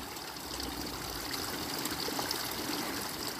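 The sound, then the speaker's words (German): Steady flowing stream water, a continuous gentle rush and babble with no pauses, fairly soft and even throughout, with no voices present. “Lass dich mitnehmen vom Fluss des Wassers.”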